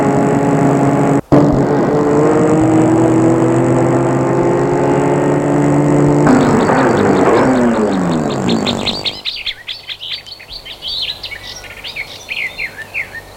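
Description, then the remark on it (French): A car engine drones loudly and steadily for several seconds, its pitch shifting as it drives, arriving at a house in Chantilly after several hours on the road, then it cuts off, leaving birds chirping and tweeting alone. “Arrivé après plusieurs heures de route à Chantilly, Julien lui indique où se trouve la maison.”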